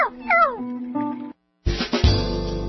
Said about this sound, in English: Meow. Whiskers, I'd better call Dr. Richmond for you, too.